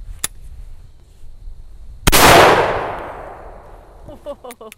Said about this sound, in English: He normally doesn't use his shotgun here, but agrees to demonstrate.